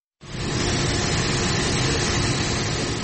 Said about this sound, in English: Only the hissing noise of air conditioners was heard at the usually busy full courtroom in Cameroon's capital Yaoundé on Monday.